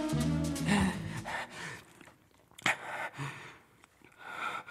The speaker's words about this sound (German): Dieser Mensch ist einer Ihrer Nachbarn. Er atmet schwer, weil Sie jung und gut aussehend sind.